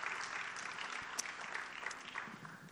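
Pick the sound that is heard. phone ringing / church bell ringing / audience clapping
audience clapping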